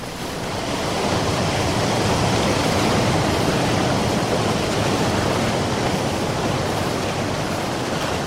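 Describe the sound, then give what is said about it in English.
Ocean surf roars steadily against the shore of a small promontory of land surrounded by cliffs, a dense, continuous wash of breaking waves that swells in over the first second and stays loud, with a hint of wind mixed in. “It's surrounded by cliffs and ocean.”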